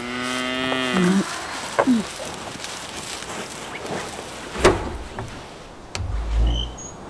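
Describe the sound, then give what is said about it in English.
A cow lets out a long, loud moo in the opening second, followed by faint outdoor rustling, a few scattered knocks and a low rumble near the end. “At least till the cow is dry again.”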